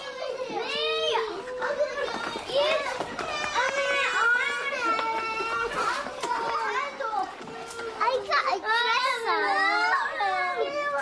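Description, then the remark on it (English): Toddlers' high voices overlap in a busy playground, squealing, calling out and bickering, with a few whiny, near-crying outbursts rising above the steady chatter. “Competition is more ancient than cooperation in the evolution of our species, and this soon becomes evident in the toddler's playground.”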